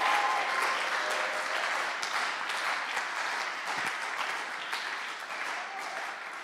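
An audience applauds Psalm 92, verses 13 to 16, steadily, a dense wash of clapping that holds at an even level for several seconds and tapers slightly toward the end, with no voices standing out.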